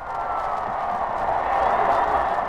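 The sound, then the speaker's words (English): A football crowd at Memorial Stadium, Minnesota versus Wisconsin, roars and cheers as a Minnesota runner carries the ball over at the goal line, in a steady, loud wash of voices that swells slightly toward the end, with no single voice standing out. “Listen to the crowd.”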